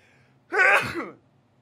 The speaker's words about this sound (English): I'm about to sneeze. It's great. Go live and then sneeze. Hold on. Sneeze coming.